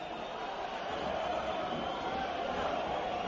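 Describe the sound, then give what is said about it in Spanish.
Fans remaining in Los Cármenes stadium shout and chant at the referee after the Granada–Betis match ends, a dense, steady roar of many voices that holds at an even level for the whole stretch, with no single voice standing out. “Gritos de fuera a fuera, algunos que se escuchan de lo que queda ya en los Cármenes.”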